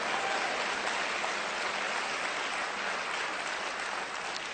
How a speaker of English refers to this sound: Come on, clap your hands louder than that.